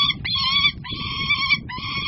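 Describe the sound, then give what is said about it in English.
A hawk named Storm makes contented noises while eating bits of pheasant meat in the grass in Augusta, Kansas: a run of about four high, thin, whistling chirps, each held briefly, over a low rustling rumble, with no talking. “And she makes contented noises as she eats.”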